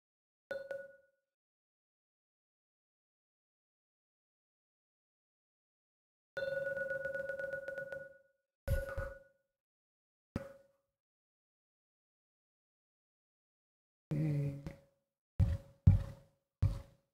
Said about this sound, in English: moments, I'll be ringing the gong. Usually ring that gong 3 times. I have to open my eyes to make sure I get it in the right place. But please, you keep your eyes closed until the 3rd ringing of the gong starts to vanish.